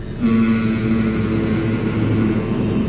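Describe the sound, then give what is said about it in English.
A steady, even hum held on one low-to-mid pitch for nearly three seconds, sustained without a break and with no talking over it, like a person humming while slowly breathing out. “out slowly and make a humming sound.”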